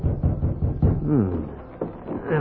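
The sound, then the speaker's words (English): Four quick, firm raps on the wooden door of a small house sound in a steady rhythm, and a voice then speaks briefly. “He was interrupted by a rap on the door.”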